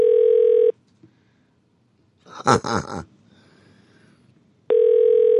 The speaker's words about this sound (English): Marie's on the phone? It's ringing. Oh, it's ringing.